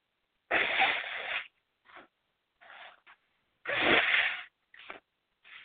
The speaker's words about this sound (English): Oh, sorry, got a sneeze. Hang on.